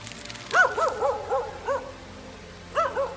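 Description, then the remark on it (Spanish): A little dog barks for attention at a woman sitting on a bench in a town square, in quick, high-pitched yips, a run of five followed by a pause and then two more, fairly loud with no one talking. “O como cuando ese perrito le ladraba pidiendo su atención mientras ella estaba sentada en el banco de la plaza leyendo su periódico.”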